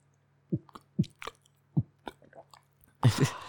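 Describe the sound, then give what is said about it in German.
A sip of water: a series of soft, wet gulping swallows spaced about half a second apart, ending in a louder breathy burst. No one speaks. “Naja, auf jeden Fall, jetzt muss ich mal kurz einen Schluck Wasser trinken.”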